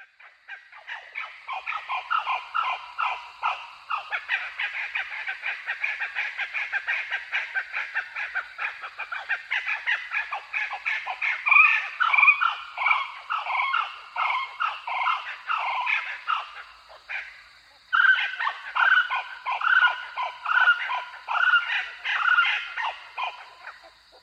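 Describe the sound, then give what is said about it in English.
Blue-winged kookaburras call at dawn in a loud, continuous chorus of harsh, cackling and barking notes, two birds overlapping for over twenty seconds with a brief pause near the end. “Its call is quite different too. Here are two birds singing at dawn.”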